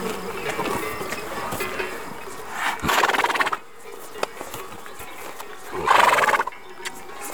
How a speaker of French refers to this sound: Vous êtes donc au milieu des chevaux.